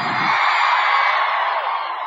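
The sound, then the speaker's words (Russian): A concert crowd in Saint Petersburg cheers loudly as a band is welcomed on stage, in one dense, sustained roar, with high whoops and screams blended in, holding steady for about two seconds without a break or any speech. “Докажите им, что Питер всегда встречает гостей очень весело и громко.”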